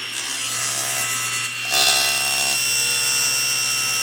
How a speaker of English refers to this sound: It just seems like, based on experience, it's unpleasant to touch a spinning saw blade, even with saw stop.